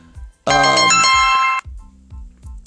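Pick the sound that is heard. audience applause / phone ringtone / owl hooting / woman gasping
phone ringtone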